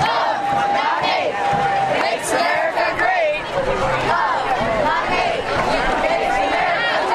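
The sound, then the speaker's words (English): A large crowd of thousands of demonstrators, promoting causes from abortion issues to LGBT rights, chanting together as they turn onto Bayshore Boulevard from Demmons Landing; voices rise and fall in a dense, continuous roar of mixed shouts and babble that stays loud throughout. “As a crush of people turned onto Bayshore Boulevard from Demmons Landing, a series of chants could be heard floating above the crowd.”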